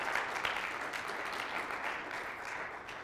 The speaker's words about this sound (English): Let's give the Lord a good clap offering here this morning.